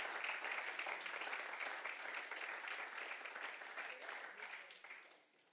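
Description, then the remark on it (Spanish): An audience applauds in praise of Christ, a dense, steady wash of clapping that holds for several seconds, then thins and fades out near the end. “Denle un fuerte aplauso a Cristo en un momento.”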